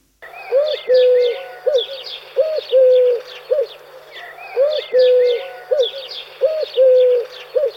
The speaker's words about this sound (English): Collared doves sound like a dismal football fan chanting United, United.